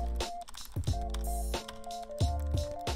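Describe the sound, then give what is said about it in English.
Irregular clicks of typing on a computer keyboard, a handful of distinct keystrokes spaced unevenly over a steady background hum, moderately quiet, with no one talking. “One day you'll hear a different sound coming from my typing.”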